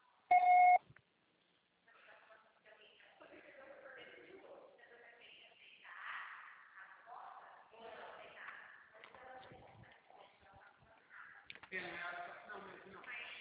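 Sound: voicemail beep tone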